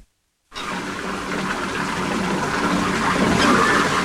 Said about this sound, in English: Betty runs water in a bathtub as George stands between the twin beds in striped pajamas and drinks a glass of milk.